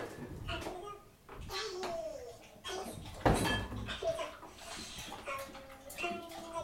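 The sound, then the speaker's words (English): A fridge door is opened with a sharp clunk partway through, amid voices and a child talking. “I've opened it now.”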